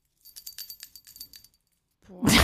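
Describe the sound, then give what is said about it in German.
A small bell is rung again during a quiz, for door number two: it jingles rapidly with about a dozen bright, high metallic strikes over a second, followed by a brief pause and a sudden loud, rushing burst of noise. “Jetzt musst du nochmal klingeln, weil es Türchen 2.”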